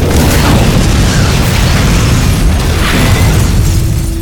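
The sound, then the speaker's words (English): A loud, deep explosion from a tank shell, its heavy low rumble roaring steadily for several seconds with a faint whine near the end. No voices. “Rock's car was already shooting off with its emergency reserve when the tank shell came down.”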